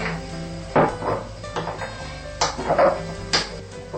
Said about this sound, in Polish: Musimy dobrze rozmieszać w zimnym napoju sojowym, żeby nie pozostawały grudki.